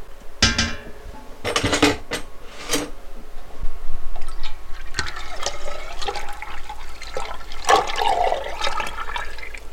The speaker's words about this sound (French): Donc je vais pouvoir mélanger entre elles toutes mes huiles de base. Donc je vais rajouter l'olive et le tournesol dans ma casserole, dans ma cuve, hein, un peu comme une grosse soupe.